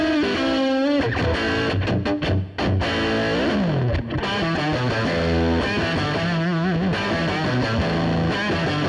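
An electric guitar played through preset 071, a Fender Bassman bass-amp sound, plays a dense, driven passage with bends and sustained chords, its tone slightly overdriven with a touch of reverb, loud and continuous with no voices.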